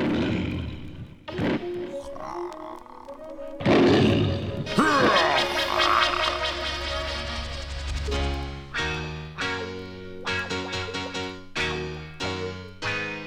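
A deep, rumbling lion roar swells loudly in the first half, followed by rhythmic musical stabs and a steady beat that carry the second half with no talking.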